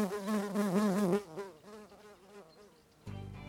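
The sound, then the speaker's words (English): Bees buzzing, a steady drone with wavering pitch that swells and fades as insects move around, loud at first and then quieter, ending with a sudden low hum. “Don't touch the bees, don't get in their way, but just sit quietly and count the bees and they'll get on with what they're doing and enable you to count them happily and peacefully and engage in this fantastic project.”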